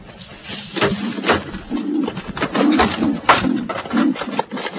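wood pigeons cooing

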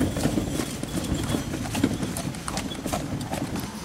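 horses' hooves clip-clopping

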